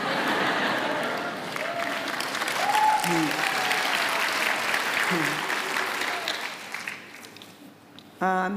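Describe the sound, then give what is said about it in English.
An audience at People's Church, celebrating Mother's Day, breaks into sustained applause and cheering, a dense wash of clapping with scattered voices calling out, gradually thinning toward the end before a short final burst. “I don't hear the mothers cheering, but it...”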